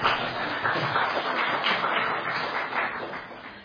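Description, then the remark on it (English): A crowd applauds in a steady, dense patter of many hands clapping at once, holding an even loudness for a few seconds before easing slightly at the end. No one speaks. “Okay, round of applause.”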